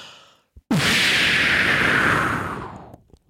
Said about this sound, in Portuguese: Bombinha de fumo.